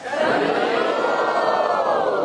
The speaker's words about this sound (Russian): И если вы узнали какие-то этапы этого пути, пожалуйста, поднимите две руки и громко крикните «Харе Бог».